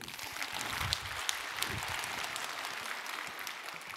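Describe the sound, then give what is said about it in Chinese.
An audience claps steadily for several seconds, a dense, even patter of many hands filling the whole clip with no voices rising above it. “谢谢你对我的警告，掌声。”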